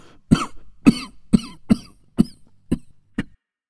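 A long, wet, phlegmy coughing fit of seven harsh bursts in quick, uneven rhythm, close and fairly loud, each cough rattling with congestion before the last one trails off.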